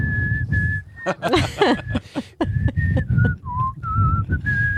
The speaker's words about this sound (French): Il me fait, oui, dans l'aéroport. Alors, je me mets à siffler à l'arrivée de Nantes-Paris.